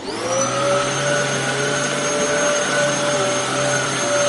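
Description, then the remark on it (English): A vacuum cleaner runs steadily and loudly, its motor whine holding a constant pitch with a broad roaring hiss, no voices present. “Frida Wolf there on vacuum cleaner, ladies and gentlemen.”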